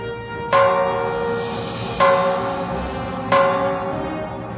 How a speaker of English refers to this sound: The bell there that they're ringing was a little pet sound that I was intent on us getting, because I remember that the sound that I'd heard actually in a Zen monastery, which was one of these big propane gas canisters with the bottom cut out of it